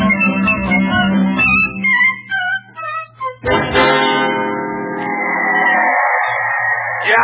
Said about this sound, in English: The crowd is yelling so loud here at the stadium, I just can't hear a word that you're saying.